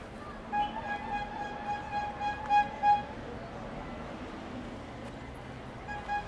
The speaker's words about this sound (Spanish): Ahí se escuchan las bocinas de los heladeros, que por el calor del mediodía, porque estamos bordeando las 2 a 3 de la tarde, hacía un sonido intenso de las bocinas de los heladeros que se puede percibir claramente en este audio.